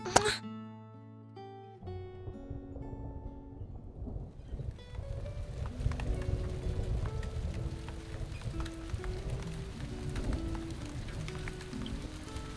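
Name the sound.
rain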